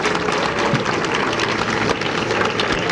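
A crowd breaks into steady, dense applause for a steel guitarist, many hands clapping at once in a continuous, even wash of sound that holds at a loud level throughout.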